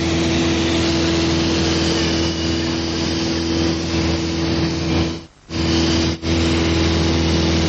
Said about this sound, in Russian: Это летим мы на самолете над Сан-Франциско. Один пилот нас взял, посадил себе на маленький самолет. Кабина, как у автомобиля. И мы летели над этими холмами, горами. Он пикировал вниз и вверх.